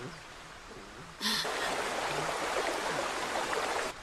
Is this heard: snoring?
no